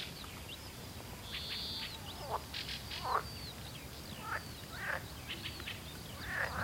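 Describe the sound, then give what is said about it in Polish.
A marsh frog calls in a series of short, rattling, laugh-like croaks repeated every second or so, standing out against a steady hiss of outdoor background noise, with fainter calls from other frogs. “Żaba śmieszka, moim zdaniem.”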